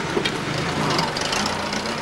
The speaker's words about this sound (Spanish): Pasa un coche con dos falangistas y dos ocupantes más.